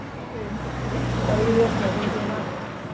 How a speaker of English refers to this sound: We found out that we can hear a lot of car engine rumbles and a lot of other different kind of noise, because these The auditorium where we did all the recording, it doesn't have any soundproof door that cover the outside part.